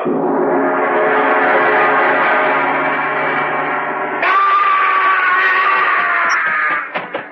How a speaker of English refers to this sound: I heard a scream. Yes, so did I. It sounded like Sheldon.